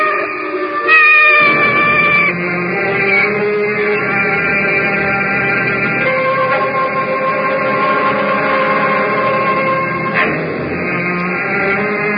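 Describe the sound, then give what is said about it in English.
A cat yowls and caterwauls in long, wavering, drawn-out cries that rise and fall in pitch, continuing loudly and almost without pause, with no talking over it. “I need it. Even from a cat.”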